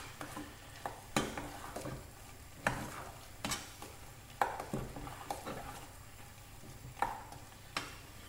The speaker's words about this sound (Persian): یه دونه پنیر من میندازم روی غذا. همش میزنم. خیلی مهمه تو این مرحله که هی اینا هم بزن، چون این یه جا بمونه به سرعت ته میگیره.